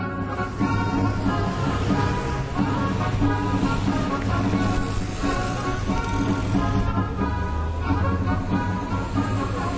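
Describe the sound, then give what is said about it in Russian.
A steady, loud rumble of city street traffic by the Hôtel des Invalides, near the National Assembly, including chauffeured cars of deputies, with humming engines running continuously throughout, dense, with no clear breaks between passing vehicles. “Здесь нужно глядеть в оба, ибо машины с шоферами депутатов Национальной ассамблеи, что рядом, полностью уверены в своем 200-процентном приоритете.”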